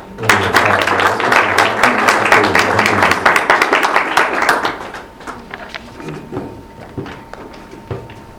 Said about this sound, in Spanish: creo que las visitas que tenemos hoy, que agradecemos mucho que estén acá presentes. Entonces, pues por favor, un aplauso.